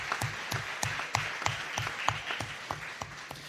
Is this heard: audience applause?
yes